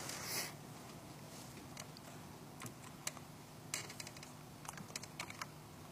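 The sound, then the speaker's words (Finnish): Quiet computer keyboard clicks tapped out in short irregular bursts on a keyboard that is not responding, with a louder rustle at the start and pauses between keystrokes. No one speaks. “Näppäimistö ei tottele.”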